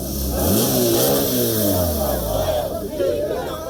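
A motorcycle engine revs up and down, its pitch rising and falling, as the rider keeps pushing forward to break an Extinction Rebellion blockade line on Kalamazoo Avenue in downtown Kalamazoo during rush hour, over a steady wash of street noise and crowd chatter.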